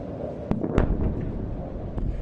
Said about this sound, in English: Missiles could be seen falling into Gaza on Tuesday night with explosions and occasional gunfire as the Israelis continue to battle Hamas.